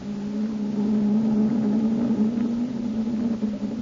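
The engines of the atomic submarine X-915 run underway in the open sea, a steady, loud low drone with a constant hum and faint mechanical rumble, unbroken for the whole stretch with no voices.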